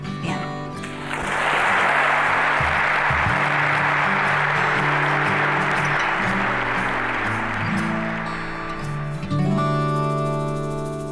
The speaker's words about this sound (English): Well, the applause there is certainly an indication that the audience was deeply moved by the words of Dr. Dorothy Patterson.